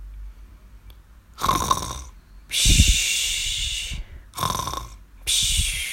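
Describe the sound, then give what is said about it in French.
Loud, exaggerated snoring of a sleeping ogre in a slow repeating cycle: a rough, rattling inhale followed by a long airy, whistling exhale, heard four times with brief pauses between, no talking. “Alors que l'ogre s'était assoupi, Jack vit que la poule pondait des œufs en or.”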